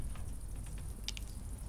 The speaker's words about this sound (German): Also der Bambus klingt aber im Brennen irgendwie wie Bambus. Ja, wie eine Röhre. Ja, die das Röhre. Brennende. Genau. Das ich sehe gerade wieder. Ja. Ich habe es gerade wieder gehört. Wenn so die Luft rauskommt, gell, dann.